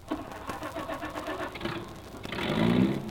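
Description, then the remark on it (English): A car engine cranks with a rapid, rhythmic churning before catching and roaring to life, the revving growing louder and steadier at the end. Fairly loud, with no talking. “That is, if I can get the car started. Sometimes this thing sticks.”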